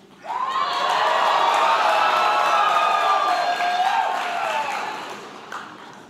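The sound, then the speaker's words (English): An audience, asked to show excitement on a count of three, bursts into loud, sustained cheering with high-pitched whoops and shouts, holding steady for several seconds before tapering off. “I didn't expect the cheering.”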